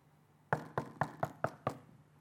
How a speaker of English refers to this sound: The Prince of Peace, the Everlasting Father, the Mighty God, the Wonderful Counselor, the Creator of the universe, He spoke the universe into existence, is standing at your door, knocking, ringing the bell.